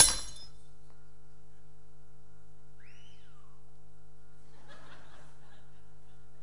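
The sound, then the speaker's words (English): A piece of pottery, like a cup, smashes with one sharp, bright crash that quickly fades, followed by a few faint tinkling fragments and soft murmurs over a steady low hum. “like a piece of pottery is smashed”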